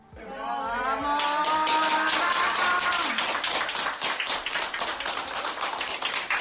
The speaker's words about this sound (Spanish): Después Castilla-La Mancha, Castilla y León y el País Vasco, pero de la UCI también se sale, como este paciente que lo hace entre aplausos en el Hospital de Benidorm.